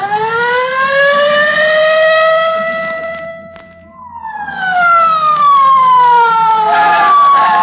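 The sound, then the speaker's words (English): A police squad car siren wails loud, one long sweep climbing and dropping, a brief lull, then a second sweep gliding down, as the car hurries to 79 Wistful Vista. No voices are heard. “Get in the squad car, quick,”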